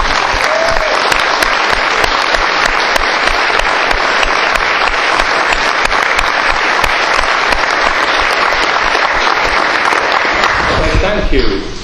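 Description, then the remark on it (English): Loud, sustained applause from a large crowd for the lead workers, wood turners and others who did the work, fills the space for about eleven seconds, a dense wash of clapping hands that fades out abruptly at the end. “and here they all are, lead workers and wood turners and all kinds of people who got the wood up there, and how you squeezed your way around those pillars, I don't know, but you did, and I think they deserve a huge round of applause.”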